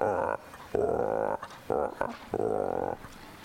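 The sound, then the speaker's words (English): A voice imitates frogs croaking on a pond late in the evening: four loud, drawn-out, throaty calls in a steady rhythm, each separated by a short pause, clear with no other sounds around them. “Frogs of all kinds late in the evening.”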